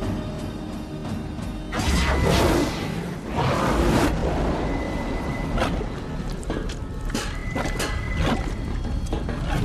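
whoosh transition sound effect

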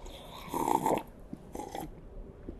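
sipping a drink

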